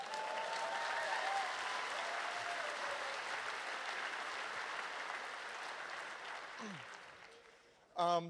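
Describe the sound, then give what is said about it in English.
A crowd at a Congress event claps for the technical crew in sustained, dense applause for several seconds, gradually tapering off, with a few scattered cheers before a brief burst of microphone noise at the end. “Again, let's give a huge round of applause for all the technical people who make shit happen.”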